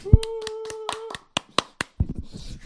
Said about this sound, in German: Also sie hat gesagt, sie hat sich auch auf einer Schule beworben für Kunst und da wurde sie auch angenommen. Mega geil, alle mal klatschen.